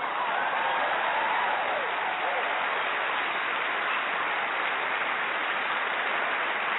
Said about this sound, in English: You got to give it a clap. Got to clap up.